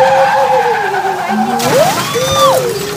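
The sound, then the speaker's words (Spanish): Tires squeal loudly as a car skids, a long wavering high-pitched screech with shifting pitch over a rumbling engine, sustained for about three seconds. “Se asoma un auto ahí.”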